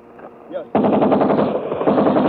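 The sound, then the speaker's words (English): A brief voice is cut off by loud machine gun fire that erupts suddenly and rattles on in a rapid, continuous burst of shots for over a second and a half, on the Seoul side of the Han River in Seoul. “Hold it! Cease firing!”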